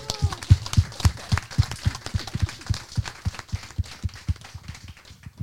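A small audience applauds for a few seconds, a dense patter of claps with no voices, gradually thinning out toward the end.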